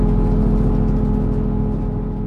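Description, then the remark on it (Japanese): The engine of the Limited Express Ozora No. 12, bound for Sapporo, idles before departure with a steady, loud low drone and a thin whine riding on top, holding constant throughout, with no voices. “はい、今聞いていただいたのはですね、アイドリング状態のところでウィーンとかっていう中で車掌さんが、出発する前の、アナウンスをしてるんですね、”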